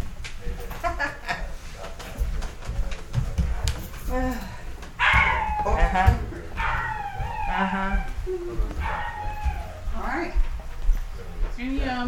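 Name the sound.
dogs barking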